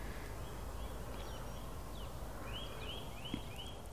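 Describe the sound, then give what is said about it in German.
A bird calls with a quick run of four high, slurred whistling notes near the end, after a few fainter chirps, over a steady bed of outdoor noise and faint rustling. “Gut, jetzt ruft er.”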